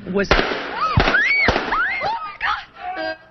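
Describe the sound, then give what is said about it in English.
Several sharp, loud gunshots crack out in quick, uneven succession during a live TV interview with a local Chamber of Commerce executive, mixed with frantic screaming and shouting voices. “her live interview with a local Chamber of Commerce executive was suddenly interrupted by gunfire.”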